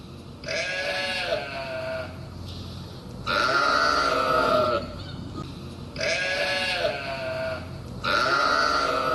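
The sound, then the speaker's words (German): A large flock of sheep that grazes a landscape park bleats loudly in the evening at its night pen right beside a housing settlement. The wavering calls overlap in four long bursts with short gaps between, like a flock calling back and forth. “Es gab nämlich eine große Schafherde, die da diesen Landschaftspark gemäht hat und die hatte das Nachtquartier direkt neben dieser Siedlung.”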